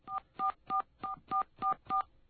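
Seven touch-tone keypad beeps in a quick, steady sequence as a 1-800 telephone number is dialed in America, each a short dual-pitched electronic tone, clear with brief silences between them.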